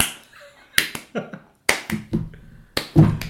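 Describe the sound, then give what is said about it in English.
A slow, uneven clap: about six or seven sharp hand claps, spaced roughly half a second apart, each ringing out briefly, with no voices. “And let's slow clap it out.”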